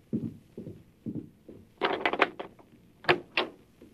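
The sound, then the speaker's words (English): A few soft, low thuds lead into a door being unlatched and opened, with a cluster of sharp rattling clicks followed by two more bright clacks. “Open the door, Cat.”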